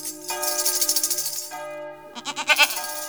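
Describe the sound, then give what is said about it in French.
A goat bleats twice in quick, wavering calls, fairly loud, with bells ringing steadily underneath, sounds drawn from the novel Notre-Dame de Paris. No one speaks. “Et une chèvre ?”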